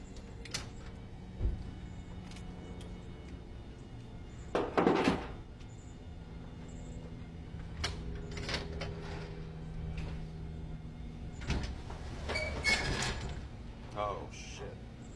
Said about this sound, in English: Boxes fell. That's not good. No, they didn't. They just got stacked too close to the rolling door and got caught on it.